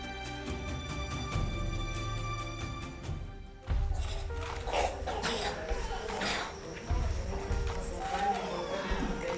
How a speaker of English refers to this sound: Can you hear them coughing? Can you hear that deep chest cough? Because the resistance is so low that the least little thing becomes a serious life or death issue for these children.